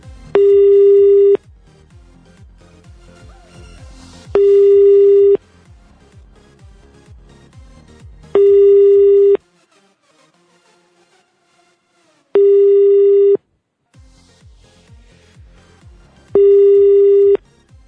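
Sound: telephone call ringing unanswered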